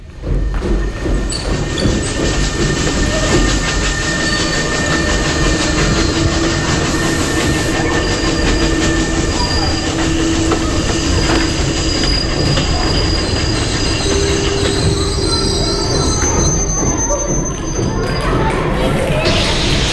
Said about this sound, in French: Sur le tableau, on observe une gare avec des trains. Il y a beaucoup de fumée blanche, c'est la vapeur du train. On voit aussi beaucoup de personnes. On dirait qu'il y a beaucoup de bruit et que ça bouge beaucoup.